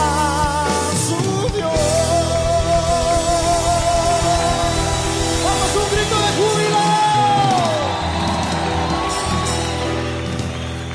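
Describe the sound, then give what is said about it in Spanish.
A crowd of voices shouts and yells together in a loud, continuous wash, with rising whoops and cries layered over a dense backdrop of sustained sound. “cantando, otras veces gritando, acompañado de sonido de bocina.”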